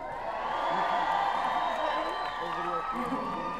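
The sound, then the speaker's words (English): A large dinner crowd at their tables, holding up lighters, cheers and whoops steadily, a dense, loud wash of voices with high shouts rising above it, sustained without a break throughout. “Dinner crowd.”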